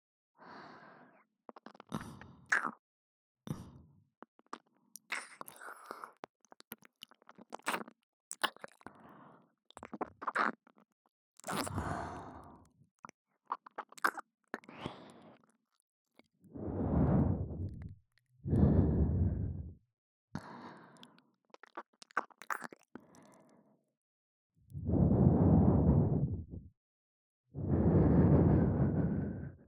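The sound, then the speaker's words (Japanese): Wet, smacking ear-licking sounds crackle in quick irregular bursts, then give way to long, heavy exhaled breaths, four or so slow airy sighs, with no talking. “中に入れたままの耳なめと吐息は格別でしょう。”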